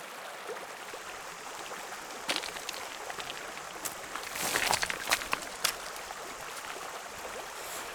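Steady rushing water of the Roanne river fills the background while hikers' footsteps crunch intermittently as they walk slowly up its valley through a gorge, with a brief cluster of scuffing steps in the middle; no one speaks.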